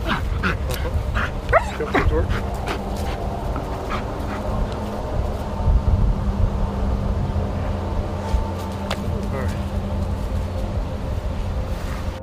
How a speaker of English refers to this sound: The dog handler tells me she's alerted on something. I watch as the machine rolls over the area the dog alerted on.